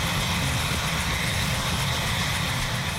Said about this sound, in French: Plusieurs responsables gouvernementaux américains ont assisté ce mois-ci à un vol de démonstration de l'hélicoptère téléguidé K-Max.